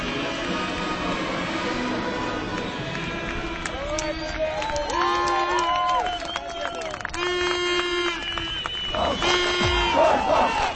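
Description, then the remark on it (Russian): A packed football stadium crowd in Tomsk roars steadily as Tom plays CSKA, with a dense wash of voices, scattered shouts, and sustained tonal calls or chants rising above the din throughout. “Том играет с ЦСКА. Трибуны полные.”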